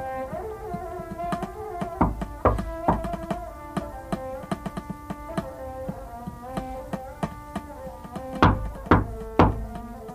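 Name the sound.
knocking on a door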